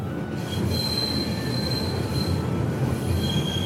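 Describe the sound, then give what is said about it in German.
A fast, modern train runs steadily along the rails from Poprad up to Stari Smokovets, with a dense low rumble, while thin high wheel squeals ring out over it. The noise stays loud throughout, with no voices. “Von Poprad geht es wieder hinauf nach Stari Smokovets, diesmal im schnellen, modernen Zug.”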